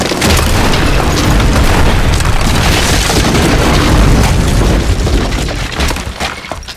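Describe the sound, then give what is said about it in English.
A loud, sustained crash of a stone entryway collapsing after a lever is thrown, a deep booming rumble packed with crackling debris that roars for several seconds before easing off slightly at the end. No voices. “Lukel, collapse the entryway! Lukel complied, throwing the lever Serini had always mistaken for a torch holder.”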